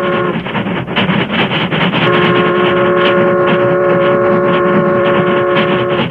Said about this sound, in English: The Union Pacific, pride of the West, was roaring across the open stretches where vast ranches separated the small crossroads communities.